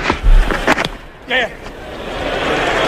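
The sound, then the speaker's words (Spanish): A cricket ball is bowled and struck in a Test match against England: a run of sharp, hard knocks, then a brief voiced call and a steady wash of crowd applause from the stands that slowly builds. “Así suena primero el lanzamiento de la bola.”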